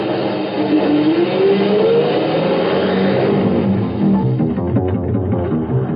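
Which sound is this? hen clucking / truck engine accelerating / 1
truck engine accelerating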